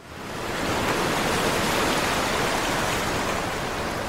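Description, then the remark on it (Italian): A wave of water rushes in, swelling up within half a second into a loud, steady, hissing wash of splashing spray that holds for several seconds. No voices. “Ma guarda che onda! Uffa! I calzettoni zuppi d'acqua!”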